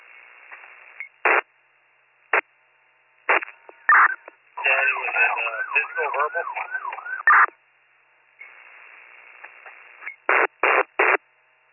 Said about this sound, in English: Sorry, I'm trying to answer you. There's some static on the radio.